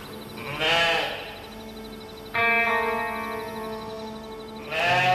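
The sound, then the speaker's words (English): Sheep bleat three times: a short bleat, then a long, wavering, sustained cry, then another bleat starting just as it ends, with a faint echo and no talking. “And that is a really important part of our flexibility, is the fact that we've got the sheep that can sort of take up the slack when things, climatically speaking, turn against us.”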